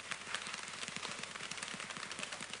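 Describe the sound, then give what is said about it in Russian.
A group slaps their chests in a rapid, continuous patter that mimics heavy, intensifying rain, part of a group rain-imitation exercise. The dense, overlapping thuds ride over a steady hiss, fairly loud and unbroken, with no talking. “Дождик усиливается. Щелкаем. Дождик еще усиливается. Хлопаем по груди.”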